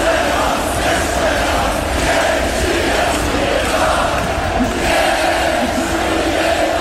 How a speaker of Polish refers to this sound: Teraz najlepsze życzenia od świętujących kibiców Wisły Płock.